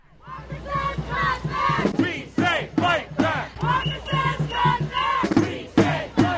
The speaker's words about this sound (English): Almost to a person, the tens of thousands of people who have been shouting and marching at the Wisconsin State Capitol for almost 2 weeks now believe the legislation being pushed by Republican Governor Scott Walker has less to do with saving money